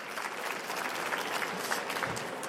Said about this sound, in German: Ja, dann geht's sofort los, aber ganz kurz noch, ich hätte gerne etwas Stimmung. Das heißt, noch einmal bitte einen Applaus für die drei großen Teilnehmer hier. Vielen Dank.